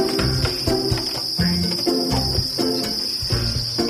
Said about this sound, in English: And how many crickets, roughly, are in each of these brooders? About 8,000.